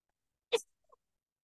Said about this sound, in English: Oh my gosh, I'm so sorry. I had to sneeze. And it was too fast. I couldn't mute.